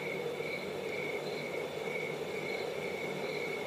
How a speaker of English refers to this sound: All I could hear, you know, you could hear the crickets, you know, that it was really silent.